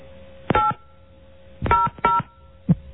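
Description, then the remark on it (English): Touch-tone keypad beeps as a phone number with area code is entered into an automated message system: four short dual-pitched tones in an uneven rhythm, a single beep followed by a quick pair and a final brief one, over a faint steady hum. “Please enter it using touch tones, followed by the pound key.”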